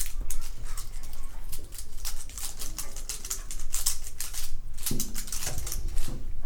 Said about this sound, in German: Memo trat auf heruntergefallene Tannenzapfen.